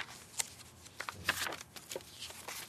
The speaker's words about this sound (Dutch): Een ogenblikje. Ik pak even een pen.